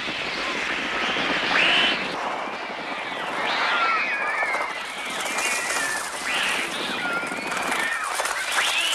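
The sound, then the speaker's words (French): A dense, continuous cacophony of shrill, screeching bird cries, many calls overlapping at once in a harsh, chaotic wall of sound with no voices, from Alfred Hitchcock's film The Birds. “Des bruits étranges, Philippe. Quelle Qu'est-ce angoisse. Que c'est ? Les oiseaux de Alfred Hitchcock.”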